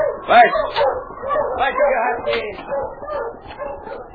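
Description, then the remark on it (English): A sled dog team barks and whimpers in a restless, overlapping stream of yips, whines and short woofs that continues without pause for several seconds, as the team plods through thick snowfall in the early darkness. “the early darkness had settled, and nobody saw the two-man and dog team as they plodded through the thick snowfall.”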